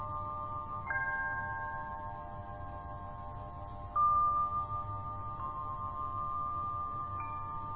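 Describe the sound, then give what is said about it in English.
A bell is struck three times at slow, uneven intervals, each clear metallic tone ringing out and lingering so the resonances overlap. No one speaks. “Do you come and go, like the bells, sensations, and thoughts?”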